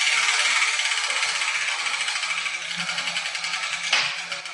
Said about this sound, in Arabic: وهذه هي كرة اليوم، وسأقرأ الحرف المكتوب عليها. أي حرف سقط من الدولاب يا جدتي؟